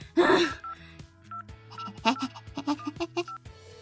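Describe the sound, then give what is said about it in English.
A quick series of short electronic phone dialing beeps, clear, following a brief breathy burst at the start, with faint steady tones humming underneath, as someone tries to call a friend's phone. “Why am I still trying to friggin' call him?”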